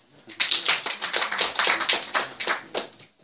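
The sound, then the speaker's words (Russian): A group of people at a recovery group meeting applauds a speaker's eleven years of sobriety, a dense, steady patter of many hands clapping at once that rises quickly and holds for about three seconds before fading. No one speaks. “Это был, то есть, на сегодняшний день, я сейчас хлопать, ничего не так, так смешно, когда все хлопают.”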